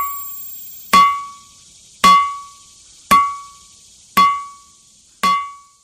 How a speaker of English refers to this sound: Well, it turns out there are locations all over the world where the rocks ring like bells when struck. Ringing rocks have been played in Africa, Asia, Europe, Australia, and in North America.